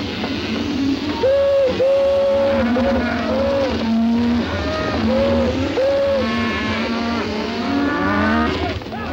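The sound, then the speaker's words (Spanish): A herd of cattle, startled by a train engineer sounding the whistle, lowing loudly and continuously, many overlapping moos rising and falling in pitch over a steady low rumble, with no pause throughout. “El maquinista hace sonar el silbato y el ganado se espanta.”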